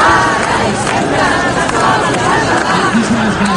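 A large crowd at a demonstration defending Catalan-language immersion in schools shouts and chants together, a loud, dense wall of many voices that stays steady throughout, with no single speaker standing out; chants call for school in Catalan, and some call for independence.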